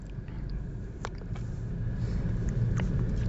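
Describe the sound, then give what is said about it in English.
Steady low rumble of cars moving slowly through a Buc-ee's parking lot, with engine noise swelling slightly over a few seconds and a few faint clicks and knocks on top; no one speaks. “I'm sorry, there's quite a bit of Bucky's traffic.”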